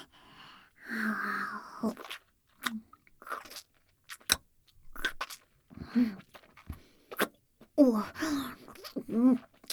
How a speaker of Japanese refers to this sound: もぐもぐするところよーく見ててね。